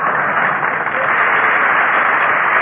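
An audience claps steadily and loudly as Fred Allen is presented in person, a dense wash of many hands with no pauses, sustained evenly throughout. No one speaks over it.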